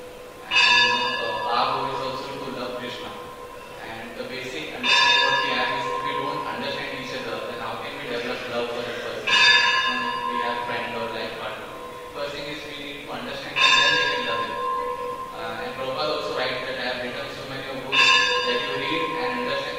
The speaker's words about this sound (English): You know, keep the time in mind, because the bell is ringing for all of us.